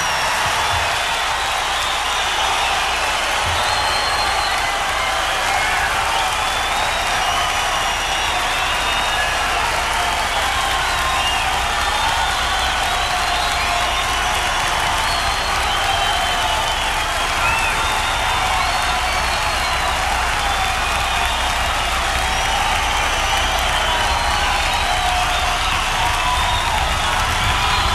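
A large concert audience at the Santa Monica Civic on October 20th, 1972, applauds steadily for nearly half a minute in a standing ovation, a dense, unbroken roar of clapping with scattered cheers, sustained at a loud, even level as they call for the performer to come back on stage for an encore.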